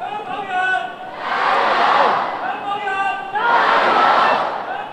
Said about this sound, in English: You can hear them cheering in Cantonese, "Go Hong Kong people," and "Step down Carrie Lam," who was, of course, their top leader.